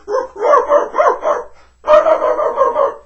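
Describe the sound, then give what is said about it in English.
A dog barks loudly in a rapid string of sharp, yappy barks, pauses briefly, then launches into another agitated burst of barking, while squeezed between fences among sheep being moved into a truck. No one speaks. “I decided I didn't want to go into that truck, so even though I didn't want to cause more problems, I started to bark.”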